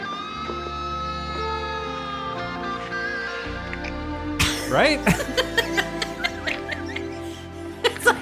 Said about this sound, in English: It's like halfway between gum chewing and mouth fart noises. It's so unpleasant. I really want to find a Foley artist for this stuff.